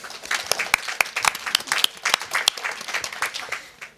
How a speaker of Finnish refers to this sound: Otetaan pienet aplodit.